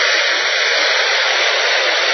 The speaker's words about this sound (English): That's white noise. That's simply a combination of all noises coming out of a radio, right? When it's not tuned to anything specific.